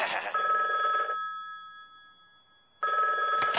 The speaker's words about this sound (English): What's this? I hear a phone ring and all of a sudden there's nothing. I'm listening as there's no talking.